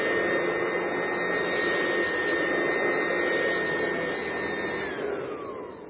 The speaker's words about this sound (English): but I do know that if I take this three-prong plug and I stick it in here, that assuming that plug works, I should be able to vacuum this room, right? So let's see.